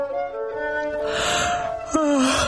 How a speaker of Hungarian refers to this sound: egy óvatlan pillanatban el nem ásítja magát.